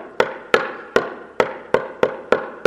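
A key repeatedly taps and clicks against a door lock, about eight sharp, close hits in an uneven rhythm with short ringing tails. No one speaks.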